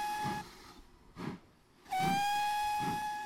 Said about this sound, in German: Nicht lange und der Zug setzte sich mit einem kräftigen Ruck in Bewegung.